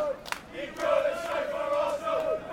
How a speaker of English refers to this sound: So we're approaching kickoff now. Fans pouring in through the Stamford Gate. This is where the away fans are coming in. They're the people we can hear, but I don't think that's particularly unusual. The away fans are always the fans making the noise.